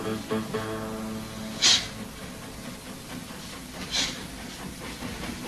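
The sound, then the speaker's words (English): A fast-travelling train driven by engineer Casey Jones rolls along the rails with a steady, rumbling roar, broken twice by short, sharp bursts of hissing steam; no one speaks. “But do you think it's safe to be traveling so fast?”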